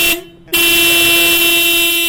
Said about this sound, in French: Salimata Diallo dit ne pas aimer du tout les bruits du klaxon de leur véhicule